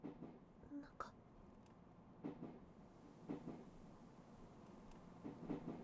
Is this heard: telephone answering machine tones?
no